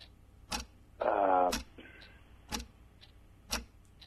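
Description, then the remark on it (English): A clock timer ticks steadily, four sharp, crisp clicks spaced about a second apart, with a brief voice murmuring between the first two ticks. “Oh, you got tech, you got a clock on me. We got the clock.”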